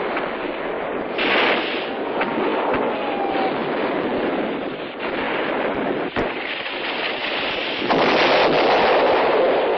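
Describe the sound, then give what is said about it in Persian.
Heavy gunfire and explosions roar in a dense, continuous battle din, with occasional sharp cracks standing out from the loud, unbroken wash of noise. No voices are heard. “بنهاد آماده باشی، شعله افکن و شلیک کن.”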